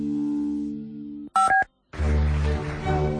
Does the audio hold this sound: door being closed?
no